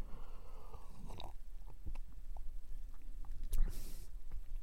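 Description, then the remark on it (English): A beverage being sipped: a brief airy slurp stands out amid soft, scattered wet mouth clicks and small swallowing sounds, with no talking. “Today's beverage, here we go.”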